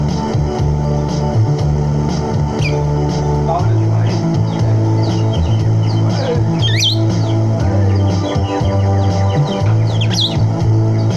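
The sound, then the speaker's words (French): A small pet bird chirps in scattered bright tweets, a few close together, over a steady low humming, tonal background that fills the whole homemade recording. “Ça joue pour Jo et son oiseau.”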